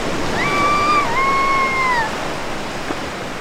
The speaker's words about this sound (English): Down at the beach, the tide is low and the water is calm. Tiny waves wrap around the point at Campus Beach.